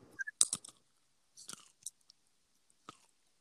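chewing food

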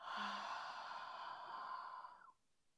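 exhaling through the mouth

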